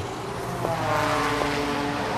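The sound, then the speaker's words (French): Moving motorcycles recreated on a keyboard as part of a musical piece of city sounds, played on the note C: a steady, fairly loud droning rumble with a rough, buzzing tone and two brief clicks, sustained throughout with no voices. “Il y a des bruits de moto qui avancent.”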